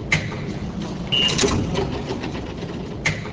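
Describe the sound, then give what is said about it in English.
Subway turnstiles at the 181st and St. Nicholas Street stop in Washington Heights, New York, clack sharply at the start and again near the end over a steady, busy rumble of passing commuters, with a brief high metallic squeal in between. “A busy rush of people passes through the subway turnstiles at the 181st and St. Nicholas Street stop in Washington Heights.”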